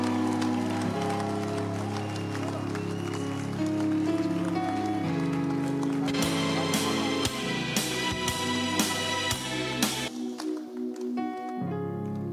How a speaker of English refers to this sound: I thought you were putting your hands together. I thought you were welcoming. All right. Come on, clap and give a hand of praise to Jesus.